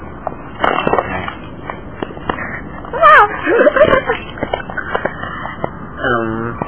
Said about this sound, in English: Come say a few words, doggy.